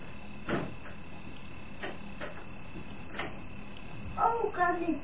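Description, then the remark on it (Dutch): A door is opened to let someone in: a few scattered mechanical clicks and rattles from a handle or latch, then a brief high squeak near the end, moderately quiet. “Doe de deur maar even open.”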